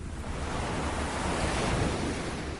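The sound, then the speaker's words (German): Steady roar of sea waves washing continuously, heard from a window overlooking the sea where surfers are out, a dense, even surf noise with a touch of wind, moderately loud and unbroken, with no voices. “Aus meinem Fenster sehe ich das Meer.”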